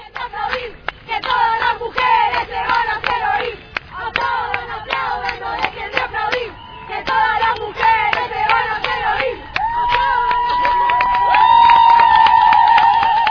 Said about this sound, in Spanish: Entre paraguas y pancartas, las mujeres gritaron basta.